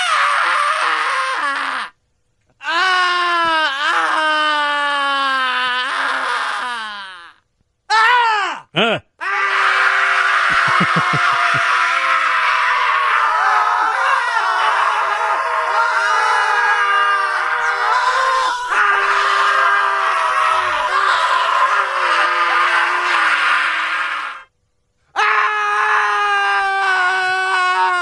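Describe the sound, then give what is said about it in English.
Several voices scream and groan together in long, overlapping wails, loud and close, with a few brief gaps before the screaming starts up again. “It's like suddenly he's got a whole bunch of friends in there, and then they scream for a couple of minutes, and then they leave.”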